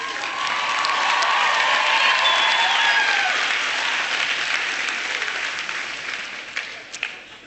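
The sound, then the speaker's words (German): A large audience claps steadily and loudly for several seconds at the performer's request, for his wife, with a few whistles and cheers mixed in, before the applause thins out into scattered last claps. “Ich werde meiner Frau ausrichten, dass ihr geklatscht habt.”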